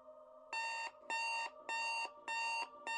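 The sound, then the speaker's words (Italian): An electronic alarm buzzer beeps in a steady repeating pattern, five loud harmonic-rich bursts about half a second each with short gaps, over a faint lower hum. “Questo mi sembra piuttosto un trillo, uno squillo, un cicalino.”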